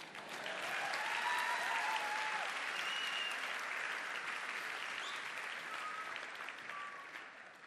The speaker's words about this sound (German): Das, er dürft klatschen, okay?